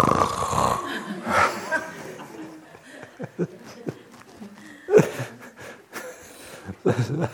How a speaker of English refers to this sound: Not the noise disturbs you, you disturb it by adding this negativity to it. Add positivity to it, and it's just really interesting, very nice. Good, melodious snoring. I just wait for the next crescendo.